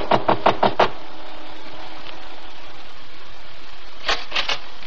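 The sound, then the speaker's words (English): Knocking on the front door of a house: five quick, evenly spaced raps, a long quiet pause, then three more knocks, with no voices. “I calmly walked to the front door. I could feel the bulge of Ralph's gun under my jacket. I took a deep breath and knocked.”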